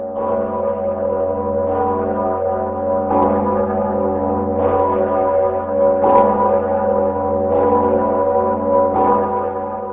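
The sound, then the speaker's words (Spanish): The Sigismund bell, the largest Czech bell, weighing 17 tonnes with a new 400 kg clapper, tolls slowly and repeatedly at St. Vitus Cathedral, Prague Castle, each deep strike blooming into a rich, sustained hum of overtones that never fully fades before the next stroke. No voices. “La mayor campana checa, denominada Segismundo, de la Catedral de San Vito en el Castillo de Praga, cuyo badajo se había roto en junio pasado, ha vuelto a repicar.”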